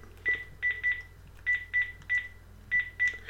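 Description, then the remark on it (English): A run of short, evenly pitched phone keypad beeps, about eight tones in quick irregular groups, as a phone number is dialed to make a watch ring, with a low steady hum underneath and no talking. “So I'm going to dial my number again.”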